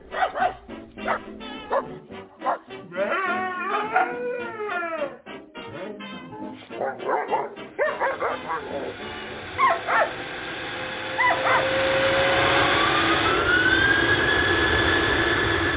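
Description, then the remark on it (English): A dog barks and yips in a rapid string of sharp calls with a brief whining howl, then falls quiet as a loud private jet engine roar swells and whines to the end. “Foiled pet and private jet.”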